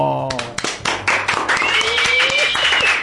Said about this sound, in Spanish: Voy a pedirles también a ustedes y a los compañeros que se encuentran aquí, vamos a darle un aplauso a Fantasía Argentina por ese reconocimiento.